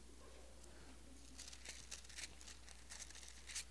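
Many thin Bible pages rustle and flip at once as an audience turns to the book of Revelation, chapter 21, a soft, scattered crinkling of overlapping turns, faint, with no one speaking.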